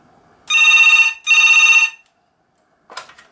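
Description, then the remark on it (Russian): A second telephone rings twice in loud, steady electronic bursts with a short gap between them, followed by a brief clatter like the handset being picked up. “Это, кстати, звонит второй телефон.”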